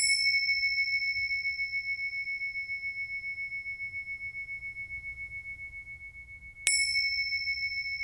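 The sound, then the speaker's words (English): A meditation bell is struck and its clear, pure tone rings on for several seconds, slowly fading, before a second strike near the end sets it ringing again. No one speaks. “The sound of bells sometimes used to mark the passage of time while a meditator sits quietly.”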